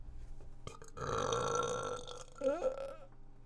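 A single long, loud burp rumbles out for about two seconds, ending in a couple of wobbly, throaty gulps. No one speaks.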